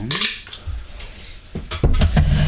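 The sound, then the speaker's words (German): Ice cubes clatter into a glass holding passion fruit juice for a cocktail, with sharp, bright clinks, first a loud burst, then a few scattered knocks and a final cluster of rattling taps, with no talking. “Machen wir noch gerade ein kleines bisschen Eis da rein.”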